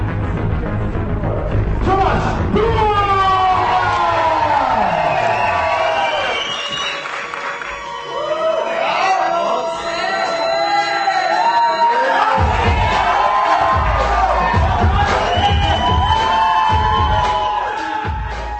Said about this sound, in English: A packed Arche Theatre on Prague's Botičí Street cheering on the winner of last weekend's European Yo-Yo Championship.